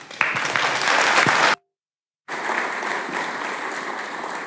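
An audience applauds with steady, dense clapping that cuts off abruptly, falls silent for under a second, then resumes just as loud and continuous.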